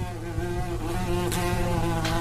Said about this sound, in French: Une abeille.